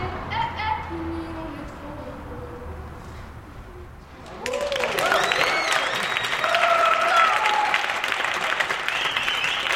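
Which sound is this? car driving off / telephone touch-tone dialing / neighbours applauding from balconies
neighbours applauding from balconies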